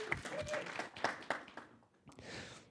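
An audience applauds the reader of a Bible passage, a dense spattering of many hands clapping at once, steady and fairly loud, with a brief dip before the clapping swells again near the end.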